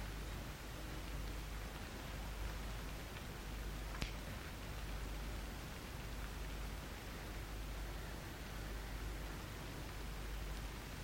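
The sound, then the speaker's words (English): Steady morning rain hisses evenly throughout, a dense, constant wash of sound with no voices, broken only by a single faint tick partway through. “Accept this morning, this rain, with all the restrictions we will have today.”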